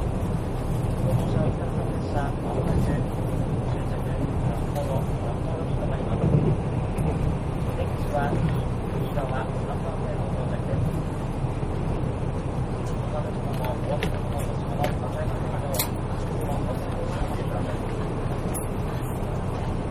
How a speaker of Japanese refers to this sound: そして、予定通り、札幌駅の方に到着するんですけども、札幌駅到着直前のね、音声もお聞きいただきたいと思います。